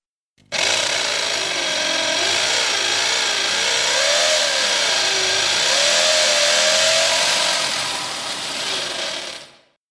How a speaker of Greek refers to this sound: Τρυπώ με τρυπάνι.